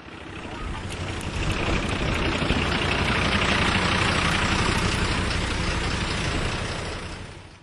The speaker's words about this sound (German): Und ich finde es nicht so schön, dass es hier so viele Autos fahren.